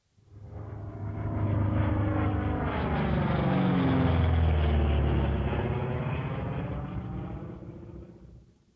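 An airplane passes overhead, its engine roar swelling to a loud, steady rumble before fading away again, with a slight shift in pitch as it goes by.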